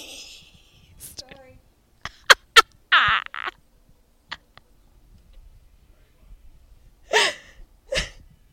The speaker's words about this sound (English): My mom just sneezed in the background.